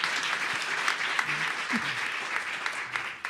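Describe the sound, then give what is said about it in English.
Sustained applause from a large audience, a dense steady wash of many hands clapping at once for the full stretch, with no voices rising above it. The audience is at a radio panel, clapping if their homeowners insurance rates have gone up over the past 3 years. “Now, clap if your rates have gone up over the past 3 years.”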